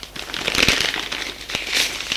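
A sheet of paper, brought by a gendarme, rustles and crinkles for a couple of seconds, with a few sharper crackles as it is unfolded, handled and read, and no voices.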